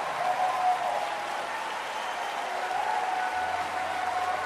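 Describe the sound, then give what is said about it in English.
Steady applause from a church audience appreciating the pastoral staff fills the whole stretch, a dense, continuous patter of many hands clapping at an even, moderate loudness with no voices standing out. “And while you're clapping, appreciate our entire pastoral staff for the fine job that they do.”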